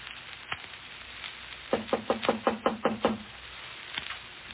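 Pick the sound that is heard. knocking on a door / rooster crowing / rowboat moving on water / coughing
knocking on a door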